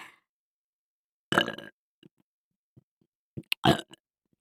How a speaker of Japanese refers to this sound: こんなエロいゲップされたら、オナニー激しくなっちゃって当然ですよね。